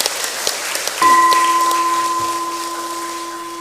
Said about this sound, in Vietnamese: Nếu quý vị hài lòng với điều đó thì hãy cho một tràng vỗ tay thật lớn để cam kết.